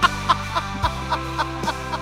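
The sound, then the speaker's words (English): An AI-generated clip: a duck quacks in a rapid, steady series of about eight short, nasal calls over a continuous low rumbling drone. No voices are heard. “If it's a roar, the duck is always in it.”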